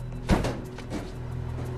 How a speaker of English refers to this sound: As Lennox closes the rear doors of the van, Lisa's car sweeps around the corner and pulls up in front of her graceful townhouse.